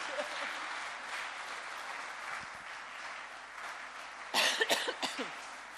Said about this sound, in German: Und ich glaube, da darf es auch einen Applaus geben, oder? Genau.